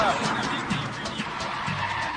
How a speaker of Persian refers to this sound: یه ماشین داره به اونا نزدیک میشه.